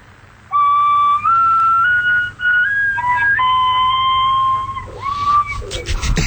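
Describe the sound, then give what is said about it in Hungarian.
A soprano recorder is blown during a lesson, the player lifting fingers one at a time starting from the right little finger, playing a string of held, clear notes that step up and down in pitch, loud and steady, then ending with a breathy, wavering tone and some faint background noise. “De nekem ne dumálja, hogy ez szoprán, látod, jó, rendben látod, szoprán fújja, de megszólalt az alsó hang.”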